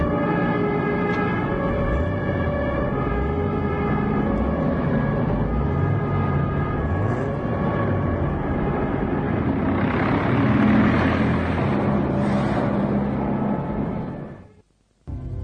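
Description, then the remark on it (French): Several jeep engines rumble loudly and steadily as a convoy of cars following a general pulls away, the noise swelling for a moment before cutting off abruptly near the end. “Les autres voitures, vous suivez le général? Allez, allez, allez, allez, convoi, convoi, convoi.”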